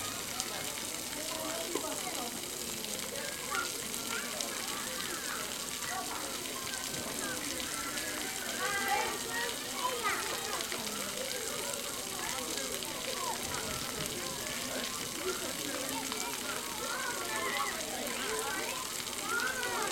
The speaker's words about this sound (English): They tip over and the water drops